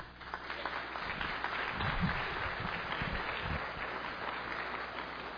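A crowd breaks into steady applause, many hands clapping in a dense, even wash of sound that holds at a constant level for several seconds without any talking.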